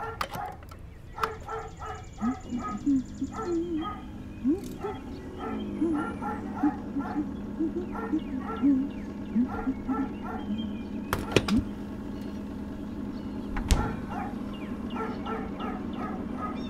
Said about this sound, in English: doesn't anyone ever take that poor thing inside? You know, what's with all that barking?